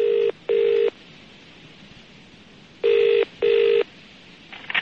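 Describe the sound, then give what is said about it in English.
A telephone ringing tone heard down the line on a call to politician John Selwyn Gummer: two double-burst rings separated by a pause, steady and fairly loud over a faint hiss, with no one speaking. “Then I phoned him up 2 minutes later.”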